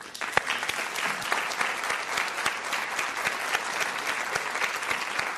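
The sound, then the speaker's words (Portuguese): An audience claps steadily for several seconds, a dense wash of many hands with sharp individual claps popping out, sustained at an even level without any talking. “Não sei o que vocês estão aplaudindo.”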